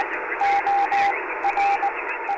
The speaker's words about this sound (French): Et chose amusante, lorsque vous écoutez le thème, vous entendez deux longues notes et deux notes courtes. Il s'agit là du code Morse de M et du code Morse de I. M-I.